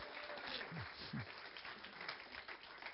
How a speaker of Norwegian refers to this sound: Gi deg en skikkelig applaus når vi går ned.